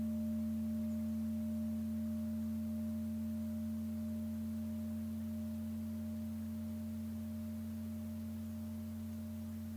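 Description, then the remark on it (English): A meditation bell hums with a steady, low ringing tone, marking the close of a mindfulness practice. Several pure pitches hold evenly for about ten seconds and fade only slightly, with no voices over it. “And the sound of the bell brings our mindfulness practice to a close for today.”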